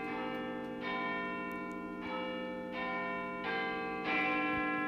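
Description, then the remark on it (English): Big Ben's clock bells, heard on BBC Radio 4 striking 10 o'clock, ring out a slow sequence of resonant chimes, a new tone roughly every second, each one sustaining and overlapping the last, with no voices. “Oh, look, here's Big Ben.”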